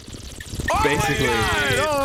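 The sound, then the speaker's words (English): Someone with water in their mouth and face turned down gargles to mimic the bubbling of a bong: after a brief soft rustle, a loud, steady, wobbling gurgle with a voiced, wavering pitch carries through to the end. “I'm putting water in my mouth and I'm facing my face down and gargling.”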